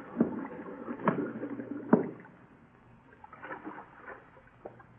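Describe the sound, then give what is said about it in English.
Air bubbles rising through water, with irregular gurgling pops and splashy bursts, a few louder ones early on, then softer, scattered burbles. No one speaks. “Them bubbles. Them air bubbles. Can't you hear?”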